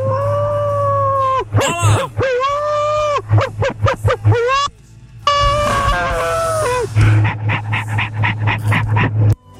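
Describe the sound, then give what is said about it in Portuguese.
A person imitates a howl, drawing out long wavering vocal tones that rise and fall, then breaks into a run of short choppy yelps before settling into a last sustained, pulsing howl. “Ô, é, tô uivando aqui, ó.”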